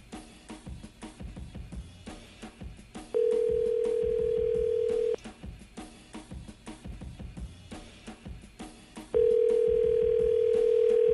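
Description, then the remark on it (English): An outgoing phone call's ringback tone, on a call to someone impersonating Luke Bryan, sounds twice, each a steady two-second electronic tone with a long pause between, loud and clear over a busy, clattering background. “Should be ringing.”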